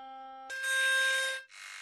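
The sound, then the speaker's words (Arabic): A small phone speaker plays a steady electronic tone from an app's Check Sound option, which plays frequencies to push water out of the phone. It turns harsh and buzzing as water sputters out, cutting off briefly before a second crackly burst. Fairly loud, no voices. “ادخل عليه هيك، وبالصفحة الأولى عندك خيار اسمه تشيك ساوند، بشغل ترددات بتخرج مي من فوق ومن تحت.”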